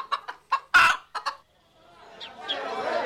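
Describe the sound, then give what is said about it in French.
A quick series of sharp chicken clucks, followed by a longer, drawn-out rooster call rising over a busier wash of poultry noise, from hens and roosters of a collective henhouse in Tilloy-les-Marchiennes. “Jeunes, poules, coqs, élus et autres riverains célèbrent avec joie ce beau projet de rassemblement.”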